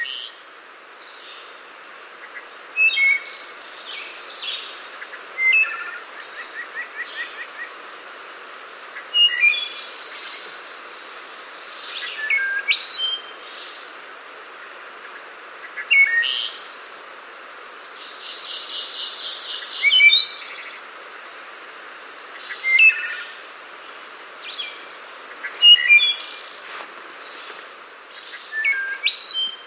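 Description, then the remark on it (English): A wood thrush sings continuously, its fluting, flute-like phrases and trills repeating at a steady pace, clear against a quiet outdoor background, recorded in Virginia in 2013. “Here is one of Jonathan Franzen's favorite bird calls, the wood thrush, recorded in 2013 in Virginia by Daryl Peterson.”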